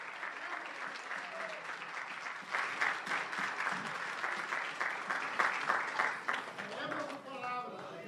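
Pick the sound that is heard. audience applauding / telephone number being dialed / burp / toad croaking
audience applauding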